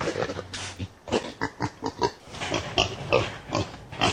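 Wild boars grunt and snort in a rapid, overlapping series of short, rough bursts, close and fairly loud, as if several animals are moving about together, with no talking.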